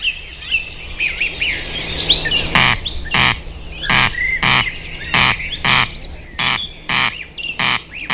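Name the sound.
corncrake calling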